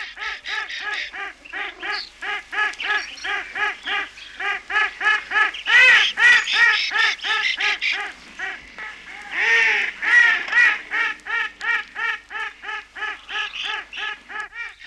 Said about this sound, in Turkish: Her şarta kolayca uyum sağlayan, sevimli mi sevimli, paytak edalarıyla yüzleri gülümseten, hepimizin aşina olduğu ördeği anlatıyoruz.